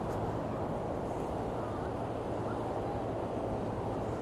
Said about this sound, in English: I just love the roar of the... just fantastic. Got a boat trying to make headway on the water, and quite slow. I think the top must be against the tide.